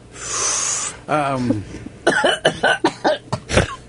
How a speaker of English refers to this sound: Sorry. That sounds like you were slurping soup. What the hell was that? Okay. Just inhaling. All right. And then blow it out.